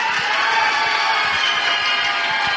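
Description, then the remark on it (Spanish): On a count of three, an audience shouts, claps and stomps together in a loud, continuous burst of noise, the dense roar of voices layered over scattered low thumps from feet pounding the floor. “Ahora, a la cuenta de tres van a empezar a gritar, aplaudir, a patalear.”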